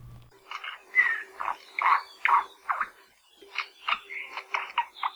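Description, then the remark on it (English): A crested honeycreeper (ʻākohekohe) gives a run of harsh, buzzy, mid-pitched call notes, then a brief pause, then a second quicker burst of rasping notes, with no talking. It is an endangered native Hawaiian bird of Maui, about 7 inches long, shiny black with orange, silver and white feather tips. “We're talking about the okohekohe, or the crested honey creeper.”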